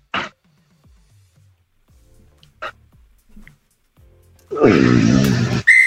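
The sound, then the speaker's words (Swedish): A referee's whistle sounds near the end as one loud, sustained, harsh blast lasting about a second, signalling that time has run out for a quiz answer. Before it there are only faint, scattered clicks and quiet rustles. “Tiden gick ut, fan Kevin, det var så nära. Det kom visslan”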